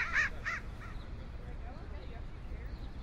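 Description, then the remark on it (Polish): A crow caws twice in quick, harsh bursts, followed by a fainter third caw, then only a low, steady outdoor rumble remains. “W dzień i w nocy kracze wrona.”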